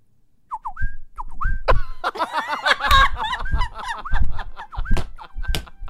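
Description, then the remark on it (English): A person whistles a bird call in a studio, starting with a few short, rising chirps alone, then continuing in bursts of warbling whistles over noisy laughter and reactions from others. “I'm not bad at a little bird whistle.”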